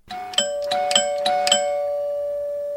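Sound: doorbell ringing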